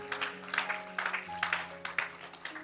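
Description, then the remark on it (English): An audience claps for the Lord Jesus in a steady, rhythmic beat, the sharp claps repeating over sustained keyboard or organ notes that hold underneath. No one speaks. “Clap for the Lord Jesus.”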